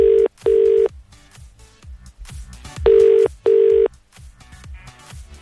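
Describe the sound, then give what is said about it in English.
Telephone tones from an outgoing call to a mobile number: two pairs of loud, steady electronic beeps with a pause between them, over quiet rhythmic background music. “It's time to make that phone call and see who our winner is.”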